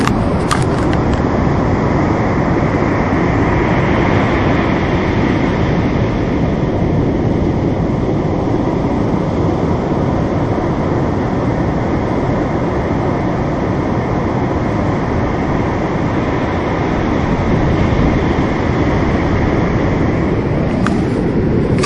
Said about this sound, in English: This is the roar of the waves breaking at Mahsaligo Bay. It is just before 6 o'clock on Wednesday during my stay. I don't know if you can hear it. I hope you can.